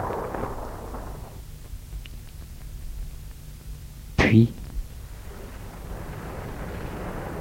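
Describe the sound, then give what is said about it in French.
A thunderstorm: a single sudden, loud thunderclap cracks through a steady, low rumbling hiss, then quickly fades back into the continuous background wash. “Ils entendent l'orage.”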